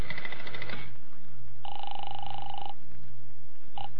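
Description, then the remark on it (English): A telephone is dialed to call the Hotel Harrison, then the line rings: a long electronic ring tone, a pause, and the start of a second ring, as if heard through the receiver. “Well, it seems to me the easiest way to find out would be to phone the hotel.”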